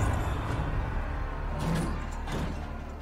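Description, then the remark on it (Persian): A heavy gate being unbarred and swung open, the bars behind it removed and its cranks turning: a steady low rumble broken by a few scraping, grinding bursts of metal and wood, with no voices. “میله های پشت در رو برداشتن. کرخنده ها میچرخه. دارن دروازه رو باز میکنن.”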